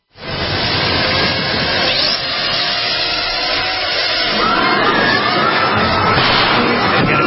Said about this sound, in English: So here they are giving the UN demonstration of the drone. Here it is.